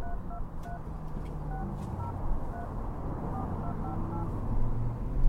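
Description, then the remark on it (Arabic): A rapid run of short keypad tones as a phone number is dialed to call an uncle, a dozen or so beeps in quick succession over a steady low background rumble, with no talking. “اصلا ذكرتني، خليني احاول اكلمه انا بنفسي.”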